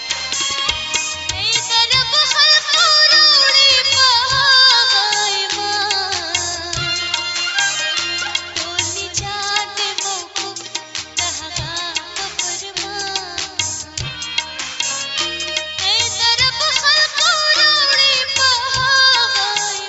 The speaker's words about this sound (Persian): یک سرود روحانی میشنیم و با ختم این سرود برنامه ما هم خاتمه پیدا میکنه.